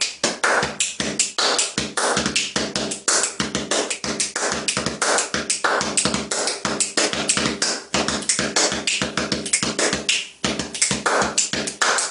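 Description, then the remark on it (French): Rapid, rhythmic body percussion by one man snapping his fingers, clapping his hands and slapping his chest, packed into a busy, steady groove that stays loud and unbroken for about twelve seconds, with no voices. “Voilà, il claque des doigts, il tape des mains, il se frappe la poitrine, et ça fait ça.”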